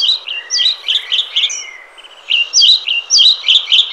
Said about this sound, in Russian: Птицы грозу переждали и снова начинают петь.